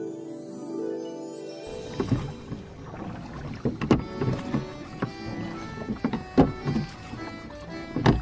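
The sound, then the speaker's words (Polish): A small paper toy boat splashes and sloshes through a puddle as someone plays with it, with irregular bursts of water and a few sharper slaps against a low steady background. “Bawię się w kałuży i łódeczka świetnie sobie radzi.”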